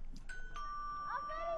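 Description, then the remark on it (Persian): An electronic doorbell of a house chimes as a visitor rings it, a few clear sustained tones stepping from one pitch to another, heard at moderate volume over a soft background hum. “باش که زنگ خانهش رو بزنم. یام از زنگ در.”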